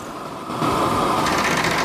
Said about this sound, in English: Because I'm going to make loads of noise. A tool with vibrating bristles removes rust.